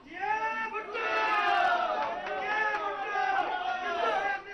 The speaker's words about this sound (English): I've been gathering some reaction to the Pakistan president's announcement that he's going to resign. Have a listen in to this. This is a cafe in Islamabad watching his address earlier on this morning.